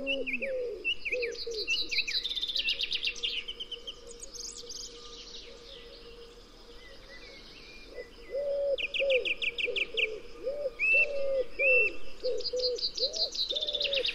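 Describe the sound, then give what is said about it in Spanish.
A wood pigeon coos in soft, hollow, rhythmic phrases close by, repeating steadily, while other birds chirp and sing brightly in the background. “También en primer término esta voz como de madera de una paloma torcaz.”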